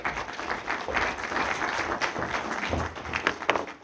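An audience in Katsuragi City applauds a guest speaker before a talk on the future of Nara Prefecture's water supply, many hands clapping in a dense, continuous patter that stays fairly even in loudness for several seconds with no voices over it.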